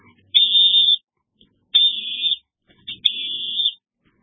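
A woman, an international referee, whistles in three long, high, fairly steady notes separated by brief pauses to open an interview, with a faint low rumble underneath.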